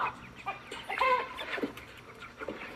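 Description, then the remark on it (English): A flock of meat chickens raised for food, clucking and murmuring together in the morning, with overlapping short calls and a brief louder burst of squawks in the middle, steady low chatter throughout. “Good morning, meat birds.”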